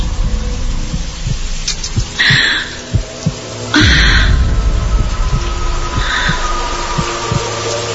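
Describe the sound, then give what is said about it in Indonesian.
A fast, pounding heartbeat thumps steadily, low and heavy, over a murky hum with a couple of brief hissy swells in the background; no one speaks. “Jantungku mulai berdegup kencang.”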